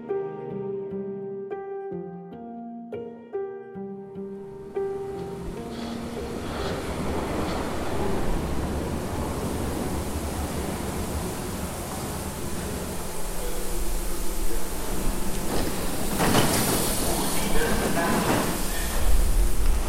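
subway train riding

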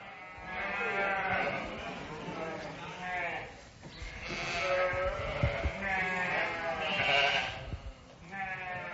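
sheep bleating

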